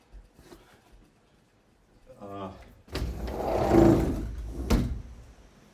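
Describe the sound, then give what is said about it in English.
A window slides open with a brief grinding rattle, then a steady, broad hiss of rain pours in and swells for a couple of seconds before a sharp knock. “It's raining. Let's see. Can you hear the rain, guys?”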